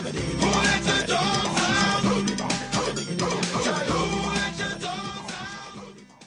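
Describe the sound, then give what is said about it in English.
A loud, busy dance track with sampled dog barks woven into the beat, playing steadily without speech and tapering slightly toward the end. “This is the best dance song”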